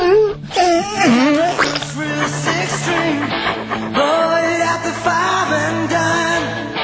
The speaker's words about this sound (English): And hang on, isn't this a song that sets off the dog? Get it.